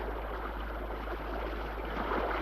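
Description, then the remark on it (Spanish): A steady rush of the Jordan River's current flowing between large flat stones fills the whole stretch, a dense, even wash of burbling water that is continuous, with no voices present. “Río arriba, la corriente se ensancha entre grandes piedras planas.”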